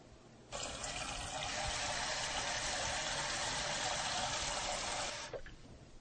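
water

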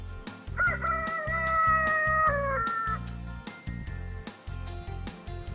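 rooster crowing

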